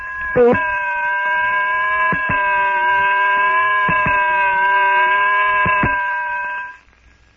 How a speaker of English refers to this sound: weird, unearthly shriek.